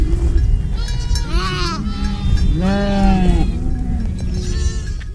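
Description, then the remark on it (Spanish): Several goats bleat in wavering, drawn-out cries, two loud calls standing out, over a steady outdoor din that may hold faint clanking bells. “Imagínate, un hombre que pasaba su día en la Sierra de Aracena cuidando sus cabras.”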